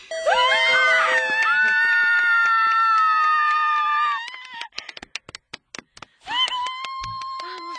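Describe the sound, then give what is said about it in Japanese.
A loud, sustained high-pitched scream of surprise lasting several seconds, followed by sharp clapping or clattering bursts, then a second shorter shriek. “もう今規制なんて悲鳴を上げてクラクラしました。”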